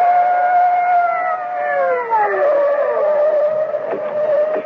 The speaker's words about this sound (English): the blare of police sirens as two patrol cars come hurtling out of the night.